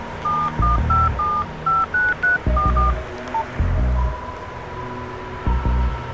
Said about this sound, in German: Komm, gib dein Handy her, ich ruf ihn an.